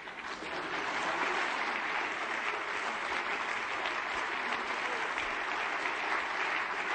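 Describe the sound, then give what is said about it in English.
A large audience at a partnership ceremony claps steadily and continuously while waiting for midnight, a dense, even wash of applause that stays loud and sustained throughout without pausing or fading. “Just keep clapping until midnight.”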